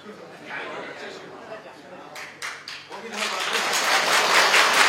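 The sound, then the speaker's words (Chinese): A few scattered claps break through a murmur of voices, then a crowd erupts into dense, sustained applause that grows louder and fills the room toward the end. “你们鼓掌是要讲，要是不要讲？”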